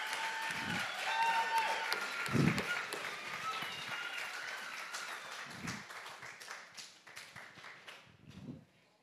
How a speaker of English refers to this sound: Let's give them all a clap. Alors, on peut toutes les applaudir.